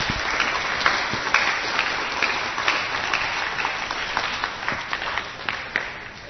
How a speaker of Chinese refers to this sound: 好，我们的爆笑达人棒不棒？棒，好，给爆笑达人掌声鼓励。